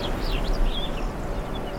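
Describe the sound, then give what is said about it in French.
Faint birds call and chirp in short, scattered bursts over a steady wind by a lagoon in southern Spain, with no one speaking. “des oiseaux et des végétaux.”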